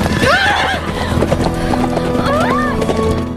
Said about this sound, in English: The horse bolts down the slope